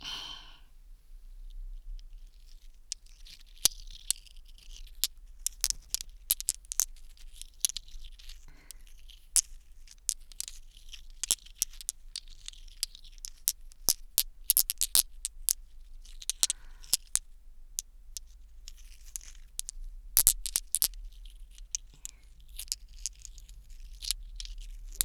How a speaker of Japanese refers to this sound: 難しい音ですよね。ビー玉。じゃらじゃら。じゃらじゃら。ガラス玉が擦り合わせ る音。